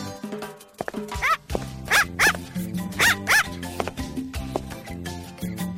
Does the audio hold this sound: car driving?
no